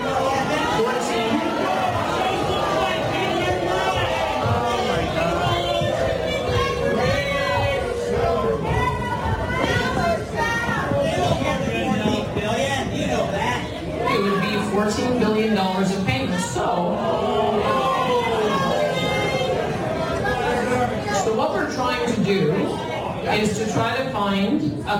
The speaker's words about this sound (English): what you're hearing is the United Conservative Party of Alberta Premier Danielle Smith getting booed in Fort McLeod